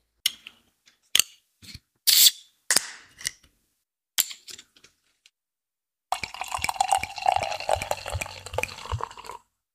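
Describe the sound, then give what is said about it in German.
A handful of sharp clicks and knocks from a bottle of fizzy drink being handled, turned once and tipped upside down, then several seconds of steady fizzy sloshing as the drink is shaken. No one speaks. “hat es einmal gedreht und ein bisschen auf den Kopf gestellt, die Flasche, und ein bisschen durchgeschüttelt.”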